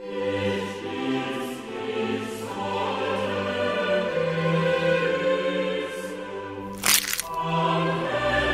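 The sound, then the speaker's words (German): A single sharp, crunching crack of an egg being stepped on bursts out near the end, loud and brief, over a steady bed of sustained, humming tones. “Ich bin schon wieder auf ein Ei getreten.”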